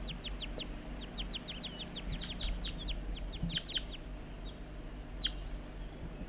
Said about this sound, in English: And that's bird 4-3, and the wild birds are right nearby. I heard the juvenile giving begging calls. right near the net site somewhere. Wild birds responding to loud calls of bird 4-3.